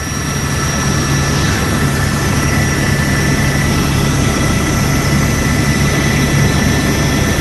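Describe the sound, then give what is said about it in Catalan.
Loud, steady helicopter engine whine with the rapid thudding of rotor blades, a continuous drone with no voices, unchanging throughout. “El company de l'helicòpter ens ho dirà,”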